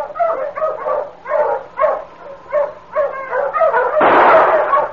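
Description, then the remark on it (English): A pack of sled dogs barks and yips excitedly in quick, overlapping, loud bursts, ending in a noisier, rougher flurry of barking. “Get those dogs”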